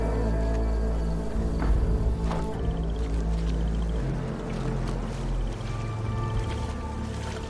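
A waiting boat's engine drones steadily on the water, a loud, continuous low rumble with a faint hum layered over it and occasional soft splashes and creaks, with no voices.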